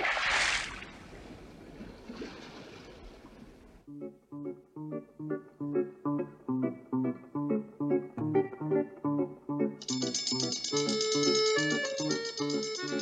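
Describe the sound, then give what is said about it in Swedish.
After a few seconds of watery bubbling, Skalman's food-and-sleep clock starts ringing: a loud, repeating chime melody, with a fast, bright bell rattle joining in for the final seconds. “Så fort de kommer ner ringer Skalmans mat- och sovklocka.”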